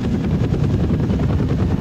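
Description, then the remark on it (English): A loud, steady helicopter rotor thumping, with rapid rhythmic chopping over a heavy low-frequency engine rumble and no voices. “I said, gentlemen, load up this helicopter.”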